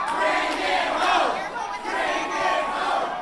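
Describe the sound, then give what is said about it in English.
A large crowd at Andrew Gillum's watch party chants and cheers in loud, rhythmic waves of voices after his win as Democratic nominee for Florida governor, with a dense roar of many people throughout. “Hugs, chants, and cheers echoed throughout his watch party, where many couldn't believe he pulled an upset win”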